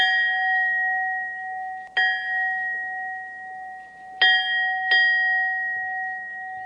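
A small church bell rings with four clear strikes at uneven intervals, each bright tone hanging on and overlapping the next in a steady, resonant hum. No voices are heard.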